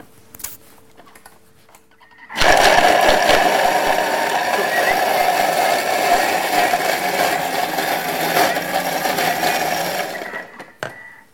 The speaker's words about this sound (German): Einfach alle Zutaten zusammen, einmal durch den Mixer durch.